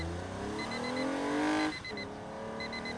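A new Toyota car's engine revs upward while cruising the open road, its pitch climbing steadily before dropping off, then settles into a steady hum, with a repeated high chirping pattern over the top.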